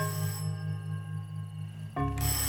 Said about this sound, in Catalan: La Mariana, a la porta del carrer amb una catifa cargolada a l'espatlla, truca al timbre.